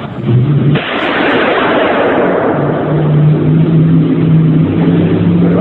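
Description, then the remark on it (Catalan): A single loud gunshot, fired at a man during an art performance in a museum, bursts out near the start, followed by a long, dense reverberant wash from the museum's resonant space that slowly decays while a steady low hum continues underneath. No one speaks. “De fet, si voleu, us podem posar l'àudio del moment en què el nostre amic es deixa fotre un tret de bala per amor a l'art.”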